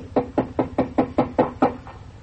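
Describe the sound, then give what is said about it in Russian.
A quick series of about eight firm knocks on a door, evenly spaced and steady, fading slightly at the end, with no voices. “Он подходит и стучит.”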